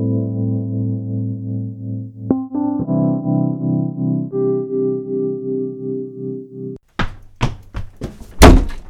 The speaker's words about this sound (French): Qu'est-ce que c'est, là ? C'est rien. Votre porte était coincée. Mais qui êtes-vous ? Mais rassurez-vous, tout va bien, puisque je l'ai décoincée.